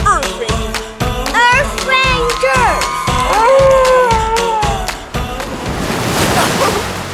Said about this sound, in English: Big one. Whew. I got splashed good in that one. Better turn the nose into the waves before I capsize or drop my mic in the ocean.